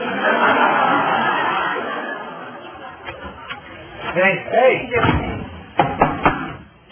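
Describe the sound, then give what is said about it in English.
Several sharp knocks on a door come in uneven bursts toward the end, following a stretch of murmured crowd chatter that continues faintly underneath. “You know, once you're inside, you don't have to knock anymore.”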